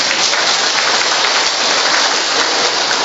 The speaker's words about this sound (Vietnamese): Không biết thì cho anh chàng pháo tay đi.